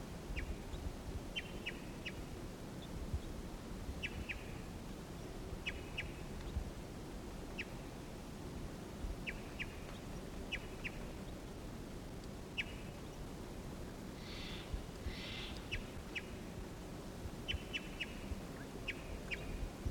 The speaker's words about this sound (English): Here's a wild bird. Wild male singing here. Wild bird.